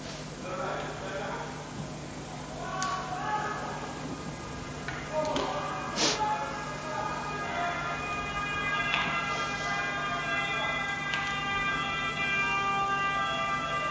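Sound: approaching emergency vehicle sirens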